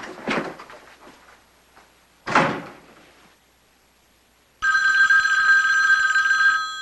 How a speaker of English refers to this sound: On the street, Selena stands in the phone booth, holding the receiver to her ear. Gordon's phone rings.